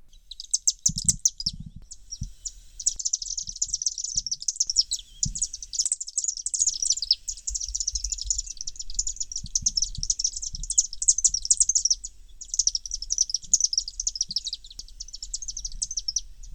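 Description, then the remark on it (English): High, rapid chittering from swifts flying around overhead in downtown Viroqua fills the air almost continuously, with brief pauses, above a low background rumble and occasional soft thumps. “Almost any day I walk through downtown Viroqua, between May and September, I hear the chittering of birds flying around overhead.”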